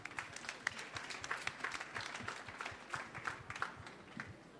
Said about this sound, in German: ich möchte ganz kurz nochmal Dirk auf die Bühne bitten. Applaus für Dirk, bitte.